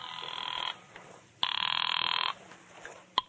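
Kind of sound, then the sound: signal or alarm, telephone ringing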